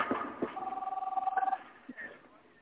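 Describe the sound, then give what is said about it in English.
A telephone rings with one short electronic trill lasting about a second, a rapid warbling tone heard at moderate volume, with faint muffled voices before and after it. “I hear a phone.”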